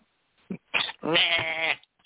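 sheep bleating

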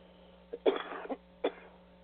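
coughing fit

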